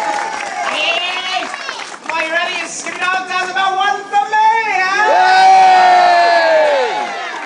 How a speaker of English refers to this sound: how's about a right good round of applause for Captain Jack Sparrow's pirate chief